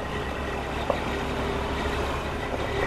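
A big 18-wheeler truck, hauling cut trees in and out of a tree farm, rumbles steadily, its heavy engine droning low and constant with a faint click partway through and no voices.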